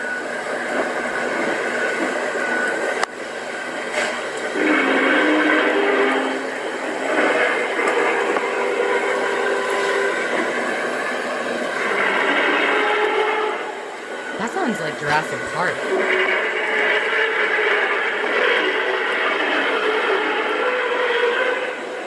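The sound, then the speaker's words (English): A skyquake over a small town in Sweden: a loud, sustained droning hum from the sky lasting 15 to 20 minutes, layered with wavering metallic tones that swell and shift, with a sharp click early on and a brief warbling dip midway. “There's this loud hum almost. Does not sound like anything natural.”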